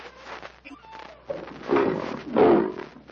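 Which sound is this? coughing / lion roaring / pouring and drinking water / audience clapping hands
lion roaring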